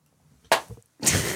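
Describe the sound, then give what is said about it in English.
A sharp, loud slap sound effect, the 'Zodiac slap of the day', cracks out, followed half a second later by a longer, noisier smacking burst that rings briefly before cutting off. No voices. “That's the Zodiac slap of the day.”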